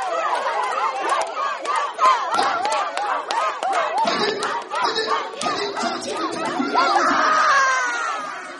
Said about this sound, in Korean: 다양한 운동 경기와 장기자랑 이어졌는데요. 응원 열기가 대단합니다.